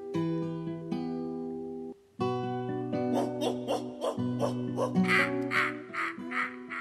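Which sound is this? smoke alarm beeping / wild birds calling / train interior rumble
wild birds calling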